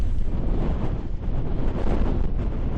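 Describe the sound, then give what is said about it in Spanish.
Strong wind gusts at Orzán beach buffet the microphone with a continuous low roar, swelling and easing slightly over a few seconds, with the rush of a rough sea and big waves breaking hard blended underneath. No one speaks. “Los arenales están cerrados, pero quizás lo que más molesta es esto que oímos, las rachas de viento que se registran por momentos durante toda la mañana.”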